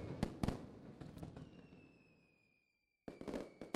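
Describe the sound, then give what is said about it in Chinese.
Fireworks set off at night during Chinese New Year bang in a quick crackling volley, then a thin whistle trails off into silence before another loud burst of pops erupts. No one speaks. “这个烟花太漂亮了，好喜欢啊。”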